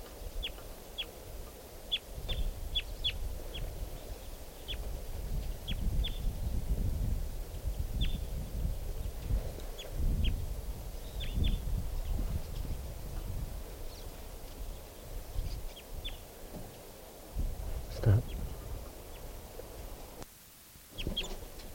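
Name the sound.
crossbill calls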